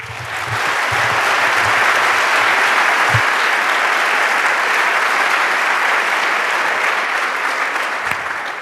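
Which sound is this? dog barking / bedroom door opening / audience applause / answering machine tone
audience applause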